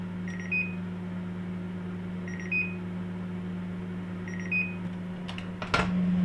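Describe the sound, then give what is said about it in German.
A microwave oven hums steadily at 900 watts for about a minute, cooking a mug cake, while three short electronic beep pairs sound at even intervals, followed by a clunk as the door opens near the end. “Dein Tassenkuchen kommt für etwa 1 Minute bei 900 Watt in die Mikrowelle.”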